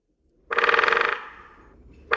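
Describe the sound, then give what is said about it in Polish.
A woodpecker drums a rapid, loud roll on a metal lamp post, the hollow metallic ring lingering and fading before a second burst of drumming starts at the end. “Bębnienie dzięcioła w latarnię, ale też i oczywiście gdzieś tam wysoko w konary drzew.”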